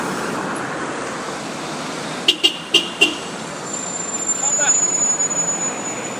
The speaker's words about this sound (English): Bus drivers recognising each other there with a bit of hornage there. One was driving his car and the other was driving his bus.